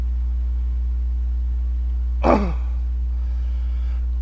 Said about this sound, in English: Okay, I apologize for clearing my throat so often.